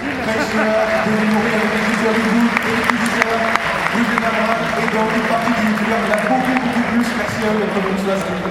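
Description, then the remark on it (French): An audience applauds the invited guests loudly and steadily for several seconds, a dense wash of clapping with a murmur of voices and cheering beneath it. “Je vous demande d'applaudir une partie donc les invités.”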